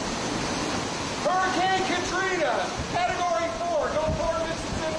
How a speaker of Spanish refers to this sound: Eso es, ese huracán Katrina que decía este hombre, que apenas puede grabar el sonido del viento y del agua que lo arrastra todo a su alrededor